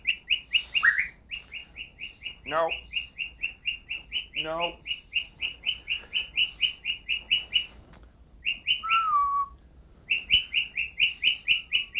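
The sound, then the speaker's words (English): A pet bird named Bobby chirps rapidly and repetitively, with a few louder squawks breaking in. A person speaks briefly between the calls. “Don't squawk.”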